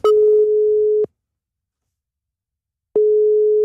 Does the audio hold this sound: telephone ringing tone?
yes